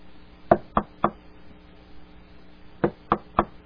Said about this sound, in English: There's knocking. There's banging on the door from outside.